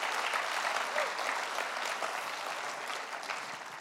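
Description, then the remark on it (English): An audience claps as a clap offering to the Lord, producing a dense, continuous wash of applause that holds at an even, fairly loud level for several seconds and tapers slightly toward the end. “Go on, give the Lord a clap offering.”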